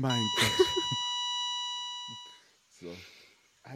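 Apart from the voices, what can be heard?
mobile phone beeping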